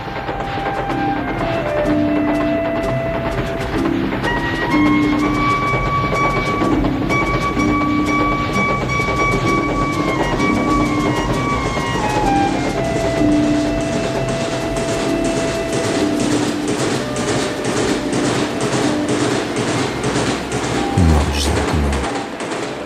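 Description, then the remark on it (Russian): A passenger train with compartments rolls steadily along with a rhythmic clatter of wheels over rail joints, while the train's long, sustained whistle sounds above the rumble for several seconds. “Свист поезда.”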